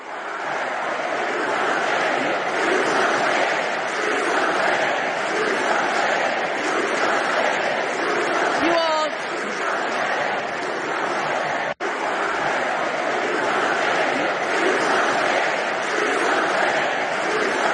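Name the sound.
crowd clapping and cheering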